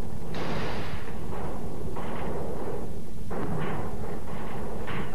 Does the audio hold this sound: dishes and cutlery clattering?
no